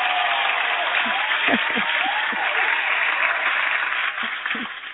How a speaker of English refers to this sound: And thank you for helping me welcome properly with that round of applause to Miss Tina.